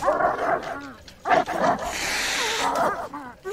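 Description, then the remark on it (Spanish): Several dogs bark and yelp in quick, overlapping bursts, with high whimpering whines mixed in and a burst of hissy noise midway through. “¡Perros! ¡Perros! ¡Fuera! ¡Fuera! ¡Largo! ¡Fuera!”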